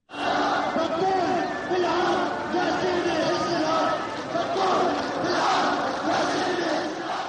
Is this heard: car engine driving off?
no